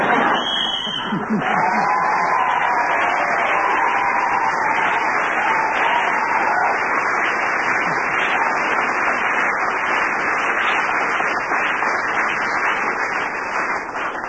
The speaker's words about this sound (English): Continuous round of applause must mean they were applauding the thing that we knew that hasn't gone yet